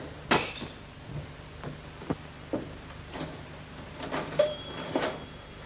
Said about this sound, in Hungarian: Törött üveg.